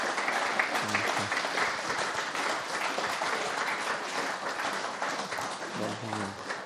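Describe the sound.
Sustained audience applause as thanks for a couple, a dense steady wash of many hands clapping at even loudness for several seconds, with a few cheers or voices mixed in.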